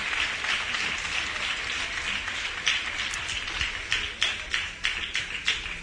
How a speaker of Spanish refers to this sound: son los miembros de este primer foro de infancia y adolescencia del Distrito 5 de la ciudad de Huelva, que por primera vez se ha constituido aquí. Así que les voy a pedir un fuerte aplauso porque tienen una bonita tarea por delante a partir de ahora.